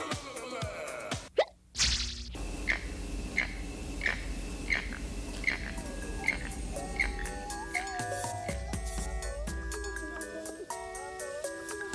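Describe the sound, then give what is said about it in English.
Birds in a Costa Rican rainforest call repeatedly, a regular series of short chirps over a steady background hum, then overlapping whistled notes at moderate volume. “The rainforest is the perfect hangout for birds.”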